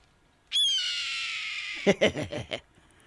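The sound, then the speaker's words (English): A red-tailed hawk lets out one long, hoarse scream that slides downward for over a second, loud, then a quick string of five short raspy bursts before silence. “Right, that's not an eagle. And for some reason, Hollywood thinks that eagle noises are not dignified enough or wild enough sounding. That's a red-tailed hawk.”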